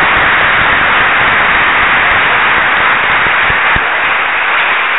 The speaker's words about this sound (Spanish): Voy a pedir doble aplauso para el padre Chachal, párroco de Siquinalá, que hoy cumple años. Doble aplauso.